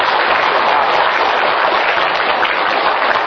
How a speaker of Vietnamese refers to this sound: Cho nên quý vị cho thầy một tràng pháo tay để cổ vũ bác sĩ đó.